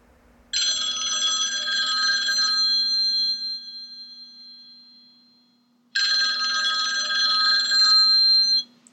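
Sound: telephone ringing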